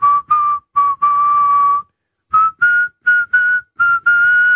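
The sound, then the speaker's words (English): A person whistles a short tune, loud and clear: a string of sustained notes in two phrases separated by a brief pause, with no talking. “I want you to do that whistle. That Omar whistle walking through the neighborhood.”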